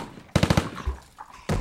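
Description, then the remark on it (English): A rapid burst of four loud gunshots in quick succession, followed by a short pause and then another sharp burst of gunfire at the end. “Cease fire! He's down!”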